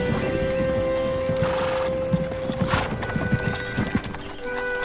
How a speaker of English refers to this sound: Missy drives Elinda home with her in the horse-drawn wagon.